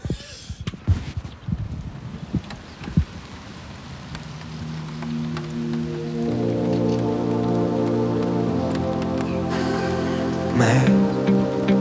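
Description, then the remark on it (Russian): Steady rain patters on a surface with scattered drips, then sustained musical tones swell in beneath it and grow louder as the rain continues. “Блядский дождь.”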